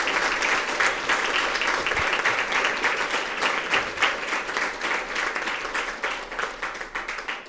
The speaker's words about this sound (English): It's very long applauses you're getting. This is incredible, like a really, really long extended.